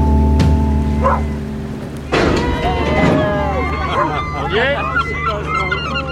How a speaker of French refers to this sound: Le bateau arrive. Le bateau s'en va.